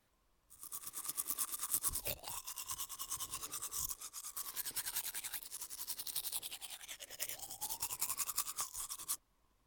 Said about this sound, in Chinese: 您稍等一下，奴先爬着去卫生间漱完口，就来服侍主人